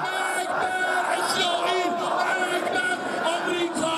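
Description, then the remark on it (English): A large street crowd in Tehran, Iran, chants in unison, many voices shouting the slogan "Death to Israel, death to America" while waving Iranian flags and stomping on Israeli ones, loud and continuous throughout with rising and falling cries. “They waved Iranian flags and stomped on Israeli ones, chanting, "Death to Israel, death to America."”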